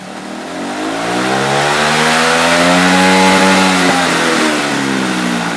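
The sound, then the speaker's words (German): A student-built race car engine revs loudly and steadily, its pitch climbing to a peak and then easing back down. No voices, only the raw engine roar. “Aber tatsächlich sind das richtig krasse Rennautos, die jährlich ausgefahren werden. Und das hören wir uns jetzt mal an.”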